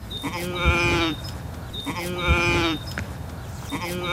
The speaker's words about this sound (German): Schwer zu sagen, was das Schaf zum Ausdruck bringen will. Hunger kann es aber nicht sein. Denn die Wiese, etwa halb so groß wie ein Fußballfeld, ist knöchelhoch mit Gras und Kräutern bewachsen.